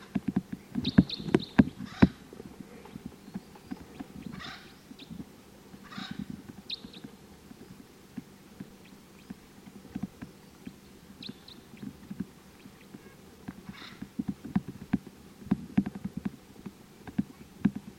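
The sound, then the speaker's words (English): Wild birds and calling decoy birds give short, high, scratchy calls in scattered bursts over low, irregular thumping and rustling noise, with additional type 4 birds calling in the distance. No one speaks. “So recording, these are the wild birds. Decoys are calling. This is the wild bird.”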